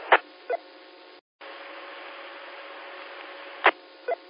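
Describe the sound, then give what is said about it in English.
An Icon 2370 radio installed in a pickup is keyed without speaking: the channel opens with a sharp click and a squelch burst, then carries a steady, thin hiss with a faint low hum and no voice, cut briefly before closing with another pair of clicks. “Give me 5 seconds of dead key.”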